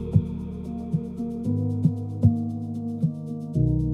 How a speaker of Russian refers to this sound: Сердце бьется тук-тук.